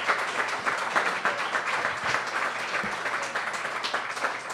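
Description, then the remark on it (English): An audience at Picasso's, at a public discussion event in Oklahoma, applauds steadily, dense overlapping claps forming a continuous bright patter at an even loudness throughout, with a faint low hum beneath. “And let's keep it going for Picasso's for letting us come in.”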